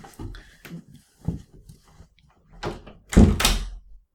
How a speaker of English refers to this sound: Front door, 1 second.